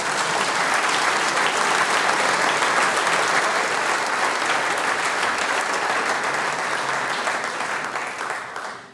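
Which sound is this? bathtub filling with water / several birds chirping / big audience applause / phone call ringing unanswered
big audience applause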